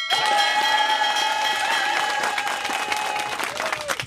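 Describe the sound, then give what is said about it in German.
A shop bell is rung in a shop to mark that a customer has found her favourite jeans. It is rung rapidly and continuously, its bright metallic ringing sustained over clapping and crowd noise, with a brief burst of clapping near the end. “So eine Glocke, die hat man dann geklingelt, wenn die Frau endlich ihr Brautkleid hatte, damit auch mal Cut ist.”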